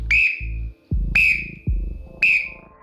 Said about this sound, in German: Dieser Pfiff da, das ist nicht irgendeine Pfeife, sondern es ist eine schwarze kleine Trillerpfeife, gepfiffen tatsächlich von meinem Opa selber. Die hat er immer griffbereit gehabt, selbst in so einem Interview.